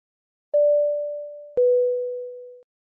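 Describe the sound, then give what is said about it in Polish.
An airplane seatbelt chime sounds two clean electronic tones, a higher one followed by a slightly lower one, each struck sharply and fading over about a second, with no voices. “Z letargu wybudziło mnie charakterystyczne piknięcie sygnalizujące zapięcie pasów bezpieczeństwa.”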